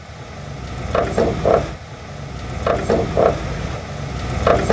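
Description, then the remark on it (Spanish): Worn bushings that hold a car's stabilizer bar to the axle creaking: short, mid-pitched rubbery squeaks and clunks come in repeated clusters of two or three over a steady low rumble. No one speaks. “Contiene unos bujes que la sujetan al puente y cuando ya están desgastados se escucha así.”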